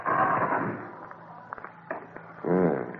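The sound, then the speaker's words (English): A door is pushed shut with a soft thud and a few sharp latch clicks, followed by a brief voiced murmur at the end. “Now leave us and close the door.”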